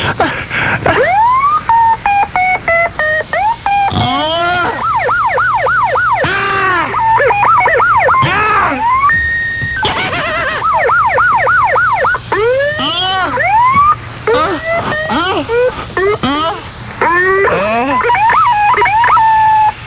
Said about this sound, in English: Men are out there protecting us. One of them firing out an office building window, and the other blowing his siren in an empty shopping center parking lot.